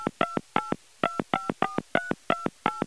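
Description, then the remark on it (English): A rapid series of touch-tone beeps as a phone number for the National Confectioners Association in Washington, D.C. is keyed in, about a dozen short, clear dual-pitched tones in an uneven rhythm, fairly loud with no voices. “And if you want to know just how much candy we buy for Halloween, a good place to start is with a phone call to the National Confectioners Association in Washington, D.C.”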